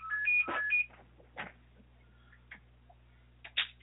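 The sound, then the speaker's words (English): A phone gives a short run of electronic beeps, alternating tones in a quick pattern, followed by a few soft clicks and taps as it is switched off. No one speaks. “Sorry, I was just turning off the phone there.”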